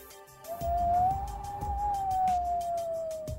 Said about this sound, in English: the winds began to howl.